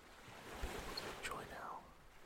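A soft, steady wash of ocean waves with a breezy hiss at low volume, with a brief faint high chirp rising over it midway; a cool breeze blows after sunset.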